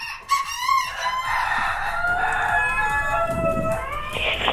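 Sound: rooster crowing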